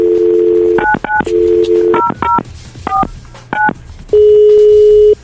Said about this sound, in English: It's 12:46, and I also have my finger on the phone. I am dialing the number of that winner. Let's see who's going to answer.